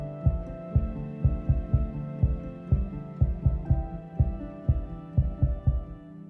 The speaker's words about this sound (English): A low industrial hum fills the air, the sound of heavy machinery being operated some distance away. But the data centre itself is silent.